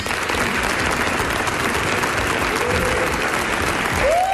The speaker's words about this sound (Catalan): Un aplaudiment!